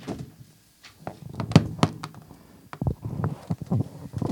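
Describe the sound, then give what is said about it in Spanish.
The door of a small hut on a hilltop being opened by two children: a series of hollow wooden thunks and clunks in an irregular rhythm, with a brief pause partway through, and no voices. “Los dos niños subieron la colina y abrieron intrigados la puerta.”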